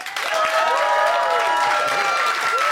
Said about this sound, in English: would you applaud now?